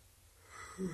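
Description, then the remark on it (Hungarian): A single breathy yawn from a husband in his wife's company swells over about a second, ending in a short low voiced groan before trailing off, with no talking. “Ásítozol a feleséged társaságában?”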